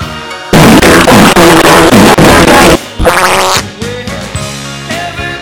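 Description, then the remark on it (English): A long, loud, raspy fart blasts up close for a couple of seconds with a rough, sputtering buzz, then trails off into softer, wetter rumbles and squeaks. “I'm gonna fart, Jerry.”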